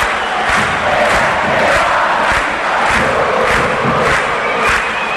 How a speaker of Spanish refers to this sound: Joaquín Larrivé, debut absoluto en Cerro, llega el grito de gol en la uña. Larrivé, Cerro gana 1-0, el festejo es así.